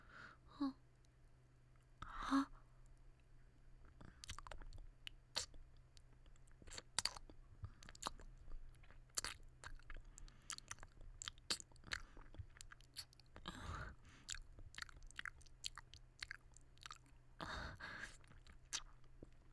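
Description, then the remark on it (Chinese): Soft biting and chewing sounds as someone gently bites and mouths a finger, with wet mouth clicks and crunchy snaps repeating irregularly, plus a couple of breathy sighs, over a low steady hum; no one talks. “咬手指会痛吗？轻轻含着痛，含一会儿。”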